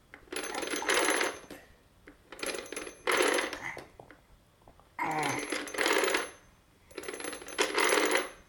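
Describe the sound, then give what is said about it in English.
A small child plays with a toy telephone that rattles and jingles in repeated bright, tinny bursts of about a second each, moderately loud, with short quiet gaps between them and no voices. “What are you going for? Your telephone?”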